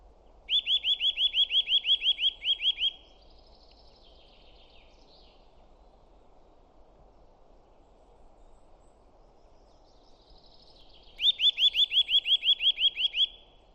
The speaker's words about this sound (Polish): O, Kowalik tutaj intensywnie śpiewa. Może spróbujemy go nagrać, co Kowalika?